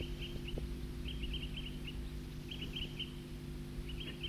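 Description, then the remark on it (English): A small flock of birds gives short, clipped toop calls in loose bursts of two to four notes at Cataract Creek, over a steady low rushing background. No one speaks. “Those birds are still tooping here at Cataract Creek.”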